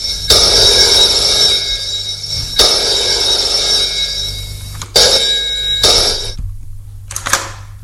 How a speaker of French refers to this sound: Il entend la sonnerie du téléphone.